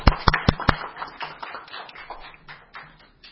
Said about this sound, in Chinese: 首先，我哋欢迎食物环境卫生署黄大仙区环境卫生总监欧家乐先生首次出席食环会会议，大家鼓掌。